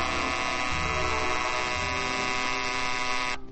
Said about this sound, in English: Yes, 10 minutes after the radio automatically goes on, the Personal's alarm can buzz to make sure you don't oversleep.